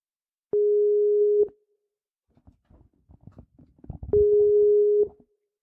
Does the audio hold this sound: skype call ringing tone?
yes